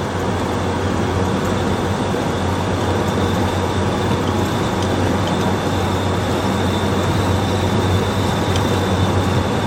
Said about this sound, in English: Except for when it is actually really pissing down, you know, like torrential rain, the windscreen wipers on this car are actually pretty good.